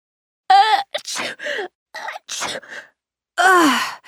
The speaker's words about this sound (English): Excuse me. Bless you. Thanks. These allergies are so annoying. You all must be tired of saying bless you. No, that's all right. But isn't it funny how we automatically do that when someone sneezes?